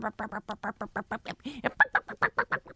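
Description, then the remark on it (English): A person imitates a chicken, making a rapid string of short, evenly spaced clucks, with one higher squawk partway through. “Turn into a chicken.”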